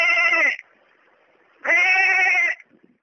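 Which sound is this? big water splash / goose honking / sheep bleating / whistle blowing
sheep bleating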